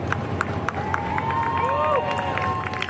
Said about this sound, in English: One by one, they stepped down to applause and cheers from their loved ones.